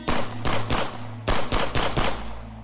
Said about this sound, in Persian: در حالی که داشتن به سمت ماشین پلیس اسکورت می‌شدن، بهشون شلیک میشه.